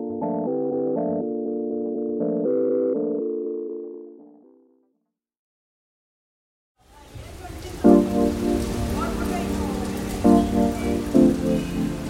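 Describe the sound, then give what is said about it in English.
A short tonal musical sting fades into a brief silence, then heavy torrential monsoon rain in Mumbai, India, roars in loudly and steadily, a dense hiss with faint tones running underneath. “The city of Mumbai, like much of the rest of India, has been suffering torrential monsoon rains.”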